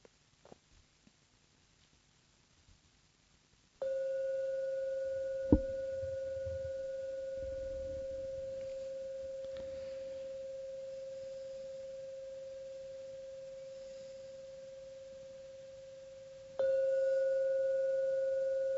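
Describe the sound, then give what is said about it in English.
A meditation gong is struck to end a meditation, its steady mid-pitched ring sustaining and fading slowly for over ten seconds before a second strike rings out again, with a brief soft knock early on. “I'll now ring the gong 3 times to end the meditation.”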